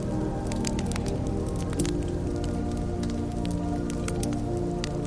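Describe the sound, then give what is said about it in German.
A steady, soft rush of water fills a night scene, with scattered light crackles and rustles of leaves in bushes where small nocturnal animals are waking and searching for food; continuous and even throughout, with no voices. “Kannst du zum Beispiel das leise Rauschen des Wassers hören? Das Rascheln in den Büschen, in denen kleine Nachttiere erwachen und sich auf Nahrungssuche begeben?”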